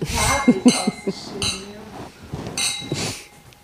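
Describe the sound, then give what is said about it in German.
Several bright glass clinks ring out, a quick cluster of taps like a toast, with voices chattering and calling out around them. “Und an dieser Stelle Prost. Prost. Prost.”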